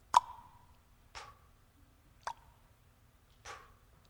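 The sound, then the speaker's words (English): A faucet drips four times, each drop a sharp, watery plop with a brief ringing tone, falling roughly a second apart in otherwise quiet surroundings with a faint low hum. “And what they heard was the faucet dripping.”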